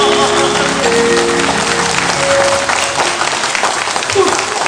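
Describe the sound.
Steady, loud applause from an audience, a dense wash of clapping that holds evenly for several seconds with a few faint voices mixed in.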